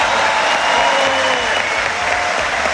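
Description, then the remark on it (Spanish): A crowd applauds the Chilean police and armed forces steadily, a dense wash of many hands clapping at once with no pauses, loud and sustained across the whole stretch, no voices standing out above it. “Y aquí les pido un aplauso especial para nuestras fuerzas policiales y para nuestras fuerzas armadas.”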